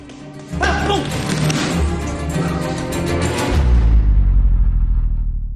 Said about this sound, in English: throws punches in the ring.